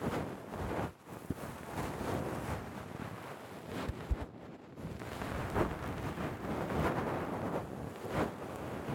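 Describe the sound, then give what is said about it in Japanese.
Breath blown softly into the ear: a continuous airy whoosh, like gentle wind across a microphone, swelling and easing slightly over several seconds with no talking. “梵天とか耳風もしてもらえますよ。”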